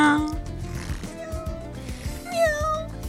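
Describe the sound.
A person's voice imitates a cat purring, a low rolling rumble that continues for about three seconds, rising into whiny, meow-like tones near the end. The sound is moderately loud.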